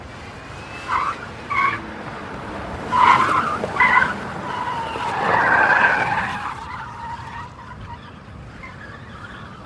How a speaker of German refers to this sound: Ich mach mal Reifenquietschen.